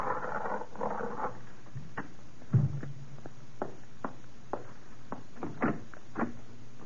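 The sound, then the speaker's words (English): A door is unlatched and opened in answer to a knock, with a scatter of sharp clicks and knocks, a dull low thud partway through, and quiet shuffling movement. No one speaks. “Lower your veil when you answer the door.”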